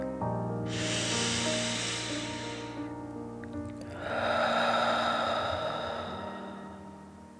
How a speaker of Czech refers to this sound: Hlubokým nádechem nosem naplníme celé své plíce. Na okamžik dech zadržíme. Potom vydechneme pusou a budeme předstírat, že jsme draci, co chrlí oheň. Připraveni? Hluboký nádech a hluboký výdech.